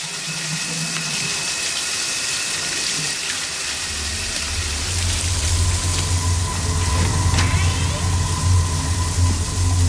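A shower runs steadily, its dense hissing spray filling the whole stretch at a fairly loud, even level, with a low rumbling hum joining underneath partway through.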